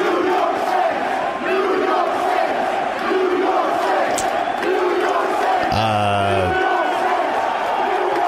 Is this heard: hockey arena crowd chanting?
yes